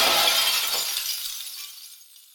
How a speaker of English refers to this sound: And now I'm trapped in here because of the explosion.